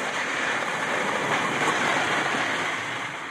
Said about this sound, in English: Normally, it's so quiet because there's nothing else happening out there, you know, but when the ice is moving and it's a windy day, it's, you know, there's a background din of crunching going on. This is actually what it can sound like.